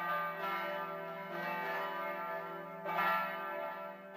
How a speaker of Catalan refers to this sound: Com cada setmana tornen a volejar les campanes al nostre campanar. El campanar també dona avui les seves batallades amb alegria, perquè aquest diumenge és el sisè diumenge de Pasqua.